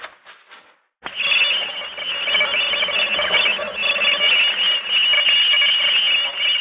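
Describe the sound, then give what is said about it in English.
An eerie electronic noise pattern said to have come from outer space, played from a tape recording made at an observatory: a sustained, warbling high-pitched tone with shimmering overtones, loud and continuous after a brief fluttery lead-in and a short gap. “I'm about to play a tape recording for you of the noise pattern that came from outer space earlier this evening”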